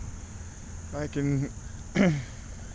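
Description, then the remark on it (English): Spooked ducks give a couple of short, nasal quacking calls as they fly off over a pond, one stretched burst followed by a brief sharper one, over a steady background of insect buzzing. “There's some ducks out there, and the ducks that I'm spooking are flying over there to where we could see them from the big blind.”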